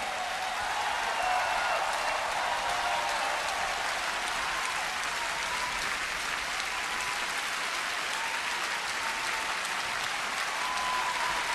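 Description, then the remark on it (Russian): A large audience breaks into sustained, dense applause, a steady roar of clapping that holds at full strength for the whole stretch without letting up. “Мне кажется, эти овации должны войти в историю.”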